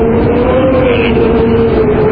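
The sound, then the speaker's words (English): Strong wind of Hurricane Charlie, heard over a phone, howls in a loud, unbroken roar, with a steady low moaning tone running underneath for the whole stretch. No one speaks. “See, do you hear the wind? Yeah, it's scary.”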